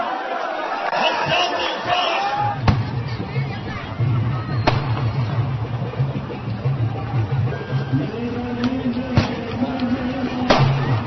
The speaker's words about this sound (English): Those were fireworks. They decided to celebrate the end of the war, as we do in some cases, with fireworks, which I've always seen as a very strange kind of reflex. Boom!